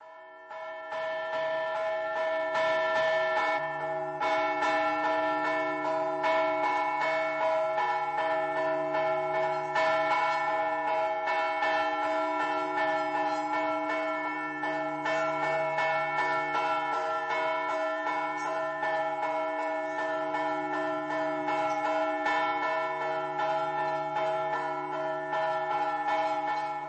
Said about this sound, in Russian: А вот теперь несколько слов о звучании набата. Что такое набат? Как звучат набатные колокола? Напомним еще раз вам.